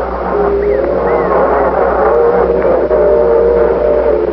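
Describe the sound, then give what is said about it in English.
A train roars, a loud, steady mechanical rumble with droning tones and brief squealing whines over it, filling the whole moment with no one talking. “No, there's a train.”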